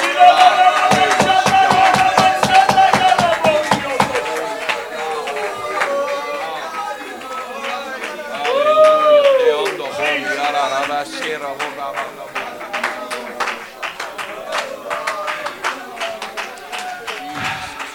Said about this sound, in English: You need to clap for him. You need to shout unto him. Shout unto God with a voice of triumph. Why? Because he gave you the victory. Because he gave you the ability. Because he gave you the strength. That's why I shout. That's why I clap.